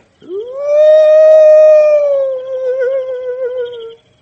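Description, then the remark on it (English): A voice imitates an owl's call as a signal: one long, drawn-out hooting cry that swoops up, holds steady, then wavers and fades, loud with no talking. “That signal means that they got some snipe coming our way. Honest? Yep. I better answer”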